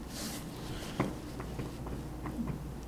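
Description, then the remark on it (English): Thin pages of a new Bible rustle and flip softly as someone turns pages looking for John chapter 14, a brief swish followed by several light crinkles and taps spread over a few seconds, quiet and with no one talking. “And he's still turning pages, so I'll let him find it.”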